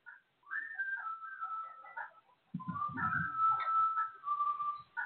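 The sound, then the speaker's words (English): Thin, wavering whistling drawn in on an inhaled breath by a person who can only whistle by sucking air in, in two stretches with a short gap between them, the second one louder and mixed with airy, breathy rasp. No one speaks. “I only can whistle if I'm going. That is sucking in.”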